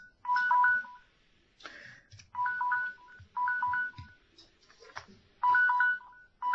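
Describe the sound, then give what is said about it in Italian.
An electronic alarm rings in four loud bursts of a quick, high-pitched beeping melody, each about a second long and separated by short pauses with faint murmuring underneath. “Anch'io ho la sveglia.”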